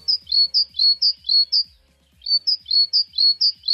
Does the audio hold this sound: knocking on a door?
no